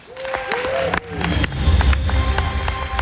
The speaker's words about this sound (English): So without further ado, please give them a huge round of applause, your Star Wars Galactic Star Cruiser panel.